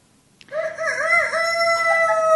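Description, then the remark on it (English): A rooster crows once, a loud, sustained cock-a-doodle-doo that wavers in pitch before holding a long, high final note, with no one talking over it. “And in verse 27, the cock crows.”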